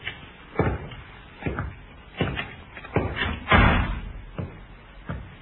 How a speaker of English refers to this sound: And the sergeant tried the door. Not locked, sir.